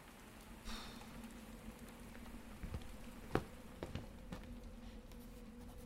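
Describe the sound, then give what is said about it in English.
Soft, steady rain patters on a roof, a constant hiss broken by a few sharper, louder drips, with a faint low hum underneath and no voices. “The sound of rain on the roof nearly put me to sleep.”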